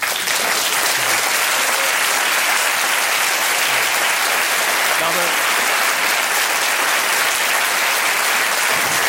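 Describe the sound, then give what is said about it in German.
Sustained, dense audience applause for Juncker fills the whole stretch, a steady loud wash of many hands clapping with no pauses or rhythm, and no voices rising above it. “Das ist ein klarer Beifall.”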